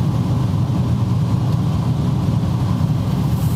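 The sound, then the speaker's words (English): A heavy truck engine rumbles loud and close, a deep, steady roar of road noise that holds constant for a few seconds with no voices. “That's got to be a Freightliner.”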